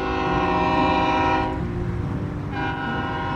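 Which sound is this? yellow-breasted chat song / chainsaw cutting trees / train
train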